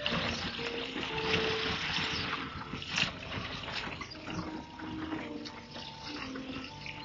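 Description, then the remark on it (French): River water rushes and gurgles steadily throughout, with a constant, moderately loud splashing texture and no voices. “Arrêtons-nous près de cette rivière et je t'en prie, baptise-moi.”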